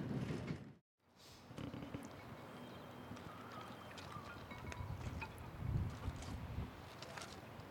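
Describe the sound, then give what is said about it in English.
Water laps gently against the sand of a small beach just down from Malig Harbour, facing fishing boats, in a steady, soft wash, with low wind rumble underneath and a brief drop to silence near the start. No one speaks. “The water's gently lapping against the sand here.”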